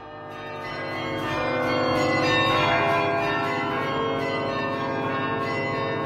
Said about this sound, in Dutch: En dan hoor ik nog klokkenluiden in de Kempen